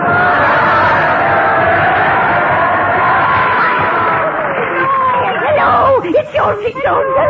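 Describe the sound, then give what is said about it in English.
A dense crowd screams in horror, a loud sustained wall of shrieks and wails, growing more frantic near the end with sharp rising and falling cries. “Those are screams of horror.”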